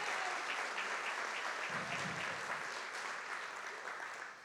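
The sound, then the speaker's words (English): A crowd gives a big round of applause for people who train and encourage others, dense overlapping claps forming a continuous wash of sound that holds strong for several seconds before beginning to taper off. “Yeah, would you just give them a big round of applause?”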